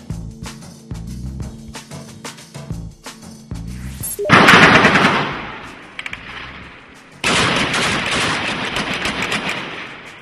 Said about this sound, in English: That's gunfire in Beirut today as violence continues between Lebanese Sunnis and Shias. Barricades have gone up in the city separating the Sunni and Shia areas, and machine gunfire could be heard in most parts of the capital, according to witnesses.